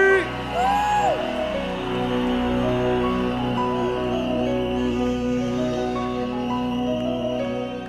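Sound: audience cheering and whooping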